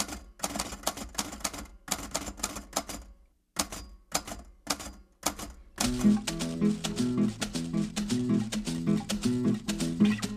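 An amplified antique typewriter, played as a percussion instrument, clacks out loud, rhythmic bursts of keystrokes, then keeps tapping as a steady, tonal musical accompaniment comes in partway through.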